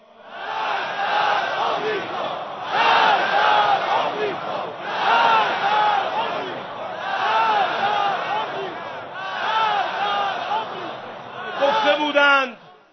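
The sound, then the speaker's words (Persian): A large crowd chants the political slogan "Death to America" in unison, loud voices repeating the same rhythmic phrase again and again, with a brief swell of shouting near the end. “پس اگر ذکر تبرای کسی گشت قضا، حال فریاد کند مرگ بر آمریکا را.”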